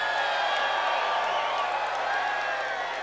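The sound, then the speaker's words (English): A live audience cheers and whoops in a loud, steady wash of crowd noise for the full three seconds, with scattered higher shouts rising above the roar and no distinct voice speaking. “All right, this is a good crowd.”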